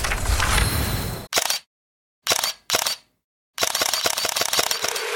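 Camera shutter clicks of a Xiaomi 17T Pro smartphone with Leica camera, loud: a dense run, then a few single snaps separated by silence, then a fast burst-mode series rattling off. No voices.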